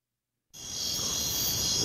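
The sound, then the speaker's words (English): After half a second of silence, a steady chorus of crickets starts up abruptly, a dense, continuous high-pitched trill that holds at a constant loud level to the end. “Crickets.”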